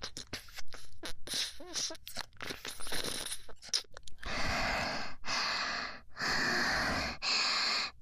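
Mouth clicks and crunchy nibbling sounds at the ear, then four long, soft breaths blown straight into the ear, each a steady airy whoosh separated by brief pauses.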